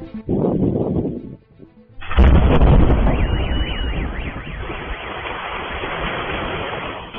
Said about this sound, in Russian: На Белгород упала авиабомба. Ее нес российский истребитель-бомбардировщик Су-34. Происшествие случилось 20 апреля. Взрыв был такой силы, что припаркованный на дороге автомобиль выбросило на крышу магазина «Пятерочка».